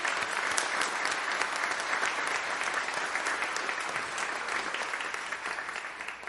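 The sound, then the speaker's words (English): A church audience applauds a play school, clapping steadily for several seconds, a dense, even wash of many hands with no voices rising above it, holding at a constant loudness and tapering only slightly at the end. “All right, well, let us say a round of applause for the joy of this wonderful play school.”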